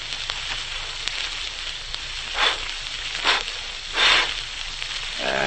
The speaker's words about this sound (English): But now I'd like to go back a number of years to the wastelands of western Colorado, where a camper is trying to get a campfire started.